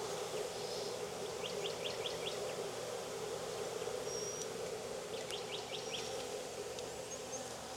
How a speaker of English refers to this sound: Man, these are very gentle bees. I mean, they're all just kind of crawling around me, buzzing. They're not stingy at all.